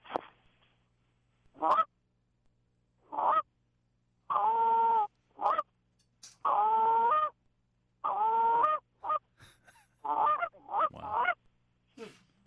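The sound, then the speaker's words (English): A handheld goose call is blown, mimicking a goose with short single clucks and longer, drawn-out honking moans in an irregular series, loud and clear with no talking. “So I'm going to hit them with some single clucks, maybe some moans, and try to give them that last little bit here.”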